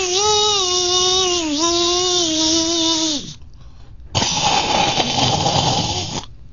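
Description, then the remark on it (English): A voice imitates a dentist's drill with a steady, high-pitched whirring whine for about three seconds. After a brief pause comes a loud, rough hissing slurp mimicking the suction tool. “I was going to say, I used to be able to do a drill, a dentist drill, and that suction.”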